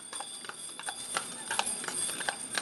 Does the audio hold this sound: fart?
no